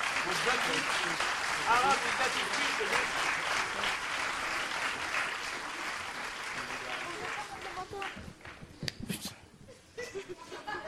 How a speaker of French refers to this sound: Donc d'ailleurs, je vais vous demander un peu plus d'applaudissements pour ça. Alors, il y en a certains qu'on a vus tout à l'heure déjà. Et on va pouvoir quand même les applaudir bien fort.